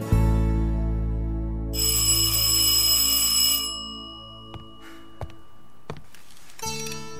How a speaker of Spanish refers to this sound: El timbre de la puerta sorprendió a Luz Marina.